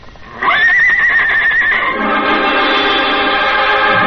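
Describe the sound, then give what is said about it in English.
The horse Trigger whinnies loudly, calling to the dog Bullet, a long shrill call that rises, holds a high quivering pitch, then breaks into a rougher, fluttering neigh that carries to the end. “Trigger calls to his pal.”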